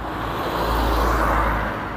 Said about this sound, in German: Diesen scheiß Autos.